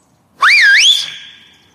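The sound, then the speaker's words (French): A single loud, shrill whistle made with two index fingers in the mouth swoops upward, wavers, then holds a steady high note that slowly trails away, heard alone; it is a repeated whistle to a friend. “Il siffla à nouveau.”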